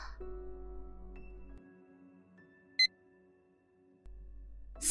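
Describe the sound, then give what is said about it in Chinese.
A digital thermometer gives one short, high-pitched electronic beep after taking a person's temperature, which reads 38 degrees, standing out against a faint low hum with no talking. “来，我量一下温度啊。”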